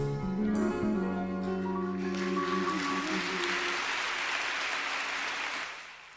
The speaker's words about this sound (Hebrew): אז הגענו לשלב מחיאות הכפיים